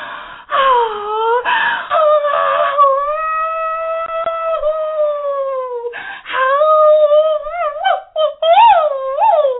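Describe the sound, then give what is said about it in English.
A human voice imitates a coyote, letting out long, loud, wavering howls that slide up and down in pitch, broken by brief pauses and ending in quick yipping rises. “she makes a big old loud sound, just like a coyote on the Texas plains, howling at the full moon above, just like this.”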